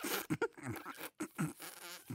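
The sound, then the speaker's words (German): A quick series of loud fart sounds, several sputtering bursts of different lengths rattling out one after another with brief gaps, no talking. “Lustige Vorstellung, dass alle am Tisch sitzen und pupsen. Wäre das was für dich? Ich meine, du hast ja damit schon angefangen.”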